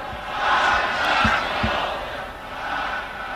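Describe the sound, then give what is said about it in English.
A large crowd cheers a leader and chants in unison that their blood runs in their veins for him, a dense, sustained wall of many voices rising and falling, with a few rhythmic shouted beats breaking through the steady din. “And the crowds cheered. They chanted that their blood ran in their veins for him.”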